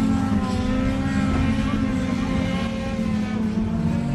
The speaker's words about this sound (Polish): A tutaj 100 ekip rajdowych odbywa wielki wyścig.